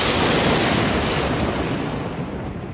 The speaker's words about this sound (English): You know what else is really, really stupid, but we've rolled with it, is the lightning round sound effect. Well, let's hit it.